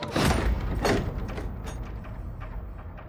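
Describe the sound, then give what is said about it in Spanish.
The door of a room is pulled shut with a mechanical rattle and two quick clunks of the latch, then the sound settles into a low, fading rumble. “Al llegar al cuarto, Tojo abre la puerta. Lo hace pasar al turco, luego pasa él y cierra.”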